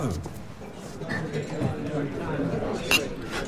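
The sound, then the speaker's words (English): Glasses clink together once in a toast, one holding cranberry juice, a short bright ring near the end, set against a steady hum of background chatter and clatter. “Cheers. Happy days.”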